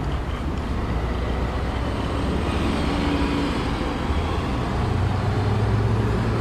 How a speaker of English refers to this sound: A taxi coming up behind me.